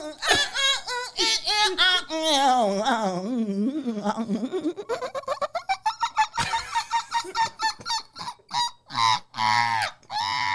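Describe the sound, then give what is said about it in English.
A human voice mimics a seagull, starting with loud, wavering, nasal squawks that rise and fall, then breaking into a rapid series of short, choppy cries. “You just remind me when you did the seagull.”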